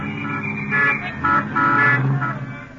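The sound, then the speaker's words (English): A taxi cab sounds several short horn toots, then its engine rumbles as it pulls away, setting off for the Little Theater off Times Square. No one speaks. “My cab is waiting. Won't you step in? All right, driver, the Little Theater.”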